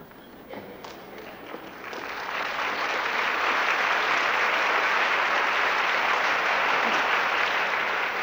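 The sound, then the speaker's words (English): An audience in Portland breaks into applause, beginning with a few scattered claps that quickly swell into sustained, dense hand clapping from a large crowd, steady and loud through the end. “Would you like to stand for a moment and show that appreciation that I could hear in the hand clapping?”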